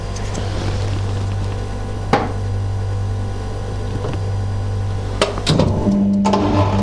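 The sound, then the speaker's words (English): A washing machine hums steadily, broken by a few sharp clicks of its controls as its accidentally knocked switch is reset, then a couple of short low tones as it starts its cycle over. “I caught the switch on the washing machine. I just had to reset that.”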